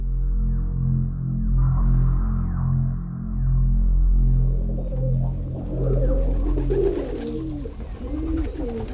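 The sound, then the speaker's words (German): Homing pigeons coo in low, throaty, rolling murmurs that overlap in a steady drone, joined in the second half by brighter, wavering warbles and soft flutters, with no talking. “Die Fähigkeit von Felsentaub immer gehört, nämlich, dass sie selber heimkommen, die ist bei dem Teil von den anderen Taubenrassen langsam verschwunden.”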